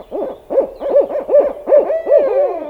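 An owl hoots in a rapid, rhythmic series of about seven wavering calls, clear, with no talking over it.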